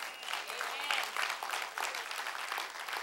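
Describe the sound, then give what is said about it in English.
An audience applauds steadily, a dense wash of many hands clapping with no clear individual beats, sustained at even volume throughout with faint voices mixed in. “And that's a good place to clap right there.”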